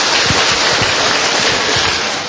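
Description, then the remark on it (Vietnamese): A big round of applause from a crowd greeting one another at a Vietnamese gathering ahead of Tết: dense, steady clapping that stays loud and even for the whole stretch, with no voices over it. “Một tràng pháo tay thật to để chúng ta chào mừng nhau, thưa anh chị em.”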